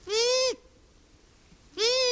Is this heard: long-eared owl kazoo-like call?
yes